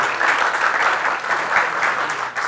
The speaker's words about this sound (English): Okay, first of all, let's just clap and show appreciation for those who are moving on.